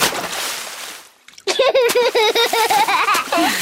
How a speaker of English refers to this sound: But you don't need to splash quite so much.